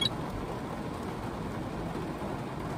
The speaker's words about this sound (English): Listen to that rain